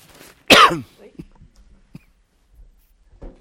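A single loud cough bursts out near the start, followed by a few faint, muffled rustles and small noises in otherwise quiet surroundings.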